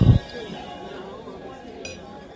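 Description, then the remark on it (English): Over a low murmur of background chatter, glasses meet in a single short, bright clink in a toast during a tasting, fairly quiet and ringing only briefly. “Let's do this. Cheers. Cheers.”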